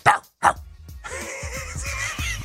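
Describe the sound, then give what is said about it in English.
A man imitates a dog with his voice: two sharp, loud barks, then a drawn-out, wavering whine that carries on steadily to the end. “That's why he's barking.”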